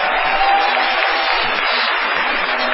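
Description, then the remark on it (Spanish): A steady, dense wash of audience applause at the Sodre auditorium, an ovation for a musician, loud and continuous throughout with no voices standing out, like a sustained ovation from a crowd. “No menos injustificada será la ovación tributada a ….”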